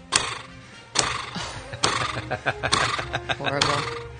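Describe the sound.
A horse whinnies in a loud sound effect, with sharp percussive clops punctuating it and a busy, voice-like layer running underneath.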